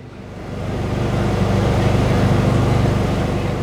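A large blue and white motorhome, a mobile health clinic, idles on the edge of a tree-shaded park during a health fair: a steady, deep rumble with a droning hum that holds at an even loudness throughout.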